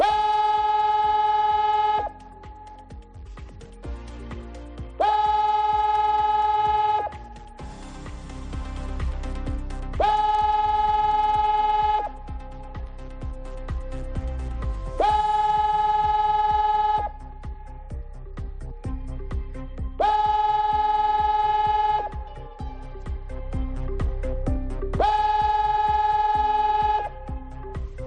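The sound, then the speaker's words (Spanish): A loud flood warning siren blares at noon during a drill in the district of La Torre, sounding six evenly spaced bursts, each stepping between two pitches, with a low outdoor rumble filling the short gaps between blasts. “Es la alarma antiinundaciones, ha sonado durante la realización de un simulacro y por eso nos hemos venido hoy aquí, porque desde el 29 de octubre nada es lo mismo y menos en el tratamiento, prevención y aviso de las emergencias.”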